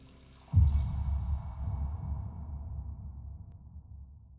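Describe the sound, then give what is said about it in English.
A man pours himself a drink into a glass, the liquid splashing in abruptly, then running in a steady, gurgling stream that slowly fades. Fairly quiet, with no voices. “Then, satisfied with his afternoon's work, he pours himself another drink.”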